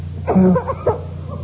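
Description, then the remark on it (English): A couple of harsh, hacking coughs from whooping cough, the first longer and strained, the second a short sharp bark, then quiet. “we'll show them there's at least two in the house who won't get the whooping cough, won't we?”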